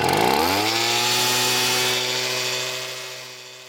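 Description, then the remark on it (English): A leaf blower's motor revs up quickly into a loud, steady, high-pitched whine with a buzzing drone underneath, held for a few seconds before easing off slightly. “If you've lived pretty much anywhere in America in the last 40 years, you probably know their motorized whine.”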